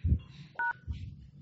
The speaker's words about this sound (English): Yeah, hold on. I'll hit pound when you want me to. Okay, hit pound.